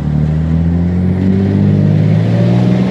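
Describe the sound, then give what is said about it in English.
A loud piston engine of a vintage military fighter plane roars steadily, its deep droning pitch climbing gradually as it throttles up for takeoff, departing runway 1-6 with left traffic, with no voices. “And what I didn't know is that we'd be doing this in something that looks like what you'd see in an air show, a vintage military fighter plane.”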